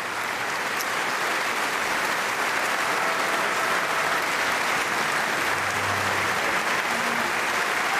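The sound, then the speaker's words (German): Sustained, dense applause from a large audience for composer Roland Kunz after his Ember Concerto, a steady wash of clapping at even loudness for several seconds with no voices standing out. “Viel Applaus also für den Komponisten Roland Kunz.”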